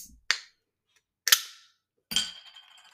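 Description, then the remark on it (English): Three sharp pops of beer cans being cracked open, evenly spaced about a second apart, each followed by a brief hiss, the last one trailing into a longer fizz. No voices. “But anyways, we're gonna do some ASMR, so we're gonna pop some open.”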